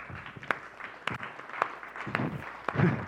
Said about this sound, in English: Can you clap for that? Yeah?